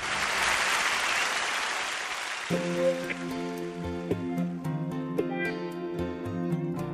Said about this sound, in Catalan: Aplaudiments per tots ells.